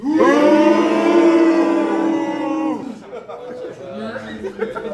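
A crowd of men bellows together in one loud, sustained shout on a count of three, lasting about three seconds, then it breaks off into scattered laughter and chatter.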